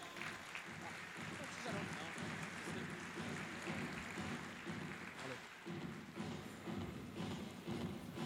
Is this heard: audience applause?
yes